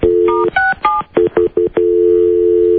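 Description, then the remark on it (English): A touch-tone phone number is dialed to call a number back, a rapid series of short, clear two-pitch beeps with a steady dial tone humming before and after, fairly loud with no voices. “I'll call it back then.”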